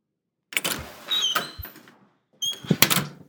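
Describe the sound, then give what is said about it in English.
A door is handled and slammed shut: a rattling burst ending in a low thud, a short pause, then a second heavy bang with a brief clatter, with no voices. “I had a presentiment that he'd slam the door.”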